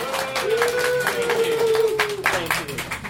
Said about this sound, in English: So could I have please a round of applause for these lovely people?